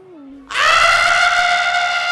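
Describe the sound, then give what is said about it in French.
A person imitates an elephant trumpeting: a low hum rises into a loud, brassy, sustained blare with strong harmonics, held steadily for about a second and a half. “Ah, un éléphant. C'est moi qui fais le bruit, là.”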